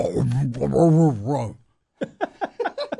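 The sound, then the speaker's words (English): A voice imitates guttural death-metal growling vocals in one sustained, warbling burst, then after a short pause lets out several quick, choppy vocal bursts. “When you get to the death metal where they're just going.”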